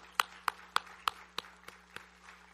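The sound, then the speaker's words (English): Applause at a church service comes as a steady run of about seven sharp, evenly spaced claps that gradually soften and fade, with no voices over them. “Round of applause for that moment.”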